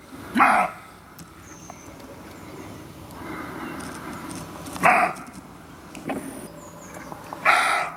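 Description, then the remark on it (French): A roe deer barks outdoors, giving three harsh, hoarse calls several seconds apart, plus a fainter one between the last two, over a quiet background of ambient noise. “Voilà, c'est un chevreuil qui aboie.”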